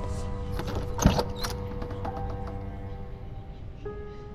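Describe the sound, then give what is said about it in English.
A door opens with a single solid thunk and brief rattle, followed by a low, steady hum lingering in the background. No one speaks. “We're out the door.”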